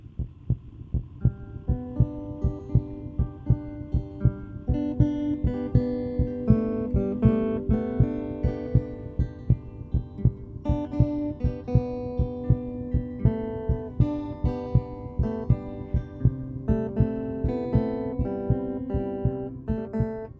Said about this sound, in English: And yes, the rhythm section is a heartbeat.